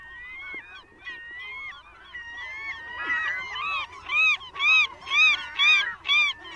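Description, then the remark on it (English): A nesting colony of glaucous-winged gulls calling on Protection Island off Cape George, many overlapping cries at first, then a loud series of about five rising-and-falling squeals in steady rhythm near the end. “and they call Protection Island that's off of Cape George, and it seems like the kind of place I would live if I was a Glaucus-winged gull, which this is the place where the majority or the largest number of those kinds of gulls happen to live.”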